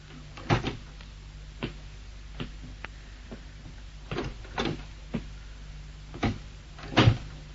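A door to a study being opened, with a scatter of sharp clicks and dull knocks from the latch and frame spread over several seconds, with no one talking.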